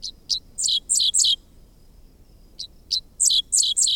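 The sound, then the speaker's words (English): A dickcissel on a fence line along a country road in Kansas on a summer morning sings two clear phrases, each a few sharp chips followed by harsher buzzy, downslurred notes, separated by a short pause over a soft low background hum. “Half insect, half sci-fi blaster, this song belongs to a bird called the dickcissel, whose name spells out the syllables of its quirky song.”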